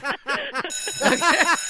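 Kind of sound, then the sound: signal or alarm, bell ringing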